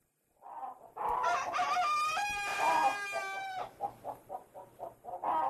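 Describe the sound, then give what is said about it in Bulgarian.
A rooster crows loudly, one long drawn-out cock-a-doodle-doo, followed by a series of short rhythmic clucks before another crow begins. “Добро утро, другарю Петел. Виждаш ли, ти така да се каже изпълняваш служебния си дълг, кукуригаш цял живот, т.е.”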